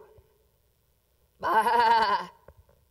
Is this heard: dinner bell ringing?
no